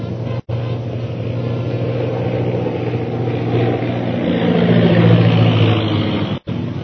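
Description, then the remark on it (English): A propeller airplane drones low overhead, flying straight toward the listeners, its engine roar swelling louder toward the end as it passes overhead, with no voices. “Most High Superior, here comes one plane right at us.”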